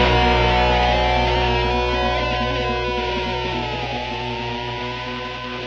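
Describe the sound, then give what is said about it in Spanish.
A loud, continuous electronic alarm, sounded to cut off a song being played, drones without a break, its buzzy, layered tone holding steady with a slight dip in pitch midway, then easing off a little toward the end. Nobody speaks. “Suena la el sonido de la alarma, que quiere decir que hemos cortado convenientemente esta hortera.”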